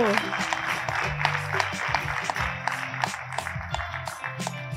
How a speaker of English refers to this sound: Thank you again. A big round of applause, please,